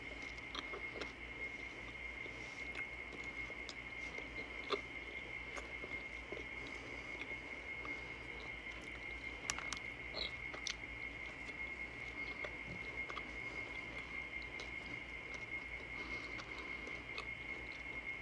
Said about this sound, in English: There's a lot to chew.